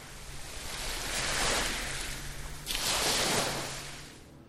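Two broad waves of ocean surf wash in and recede one after another, a steady hissing roar of breaking water with a low rumble underneath, moderately loud.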